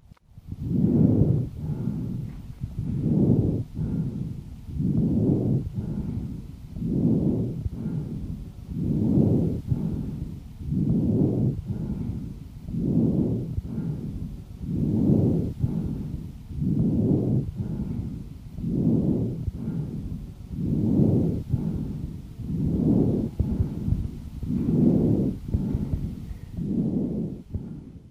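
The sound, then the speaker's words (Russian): Harsh, rasping breath sounds of a patient with chronic bronchitis, picked up through a stethoscope, about fifteen steady inhale-exhale cycles in a regular rhythm, loud, with no talking. “Прослушайте жесткое дыхание, зарегистрированное у больного с хроническим бронхитом.”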